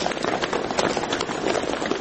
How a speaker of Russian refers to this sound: И, значит, я вместе со всеми бежал и слышал этот цоканье копыт. Казацкие сотни, которые разгоняли толпу.